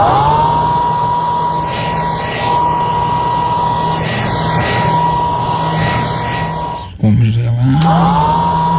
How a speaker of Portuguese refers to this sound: Pode demorar, o secador. Pode passar o secador, porque essa barriga tá grande.